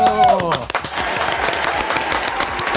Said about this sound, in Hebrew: אז תנו עם הרבה הרבה מחיאות כפיים, בואו ונקבל אל תוך אולפנינו